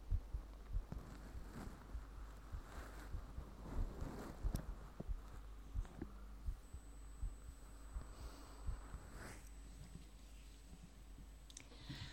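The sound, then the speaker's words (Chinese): A person's muffled heartbeat thumps steadily throughout during a medical check-up, low and soft, with scattered small clicks and a faint high-pitched whine creeping in partway through; nobody speaks. “说话，听听我的心跳。”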